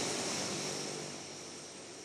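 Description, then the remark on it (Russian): A strategic bomber's heavy engines roar steadily after a long warm-up as the aircraft starts moving and slowly taxis out to the runway, a dense, unbroken rumble that eases off slightly toward the end. No voices are heard. “Стратегический бомбардировщик «Изборск» долго разогревает двигатели и начинает движение.”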